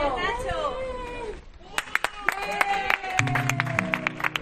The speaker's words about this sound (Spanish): Entre esos aplausos que han arropado la salida de nuestro ciclista solidario desde el Centro Comercial Ferial Plaza, sonaban los de su compañero, amigo, bueno, jefe, según se mire, presidente del PP de Castilla-La Mancha, Paco Núñez.